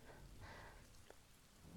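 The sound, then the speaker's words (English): Steady rain pattering continuously, with a low, faint rumble of thunder underneath. No voices. “Not while there's still thunder.”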